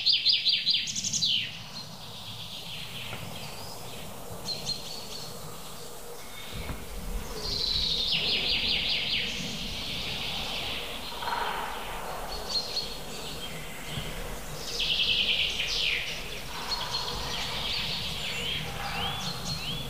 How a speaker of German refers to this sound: Ich gebe dem Goldhähnchen jetzt mal kurz eine Chance.